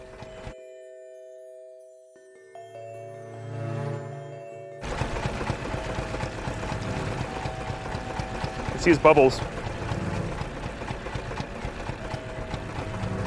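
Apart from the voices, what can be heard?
boat engine running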